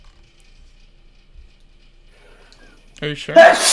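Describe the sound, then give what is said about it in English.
Near-silence with a few brief spoken words, then a sudden loud sneeze bursts out at the very end, a sharp breathy blast. “I'm about to sneeze.”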